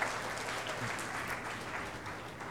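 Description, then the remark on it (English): An audience claps together in steady, dense applause, giving a man a hand clap to celebrate what the Lord has done; a continuous crackle of many hands that holds fairly even throughout, with no voices standing out. “Why don't you just give him a hand clap and tell him we're glad for what the Lord's done.”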